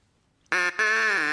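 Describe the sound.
A loud, nasal duck quack bursts in after a moment of quiet, breaks off briefly, then continues as a second drawn-out quack, with no talking.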